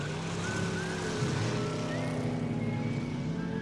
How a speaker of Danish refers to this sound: Det lyder som en brødrester, der vil eksplodere. Altså, den er presset til max, den gamle bil.